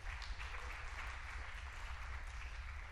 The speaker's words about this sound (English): It's, you know, it's kind of like these guys up here, man, our musicians, I love our musicians. Are they awesome? Give them a good hand clap of praise.